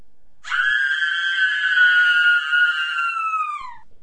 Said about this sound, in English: She turned around and screamed.